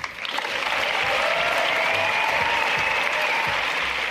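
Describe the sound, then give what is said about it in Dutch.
Sustained cross-party applause from a large crowd following a speech by climate activist Anuna de Wever, a dense, steady wash of clapping that holds at an even loudness for several seconds, with a faint whistle or cheer threading through. “Ja, Anuna de Wever, veel volk, ook heel veel applaus.”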